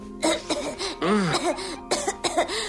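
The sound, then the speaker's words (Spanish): A voice imitates a woman's throat-clearing tic, as if about to spit: a string of short, raspy, guttural bursts in quick, uneven succession, fairly loud, with no other speech around them. “Tiene un tic que te pone de los nervios, un carraspeo, algo como...”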